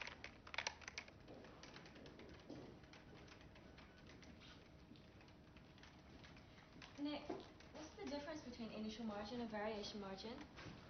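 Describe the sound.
Scattered clicks of typing on a computer keyboard tap along at a moderate pace in the back settlement office of Bearings, then a voice comes in toward the end, talking over the keystrokes.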